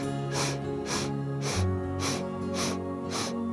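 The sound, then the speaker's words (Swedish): A steady series of short, sharp sniffing inhales through the nose during a breathing exercise, about six evenly spaced breaths filling the lungs, clear over a soft sustained musical drone. “Och så andas du in 8 sniffar.”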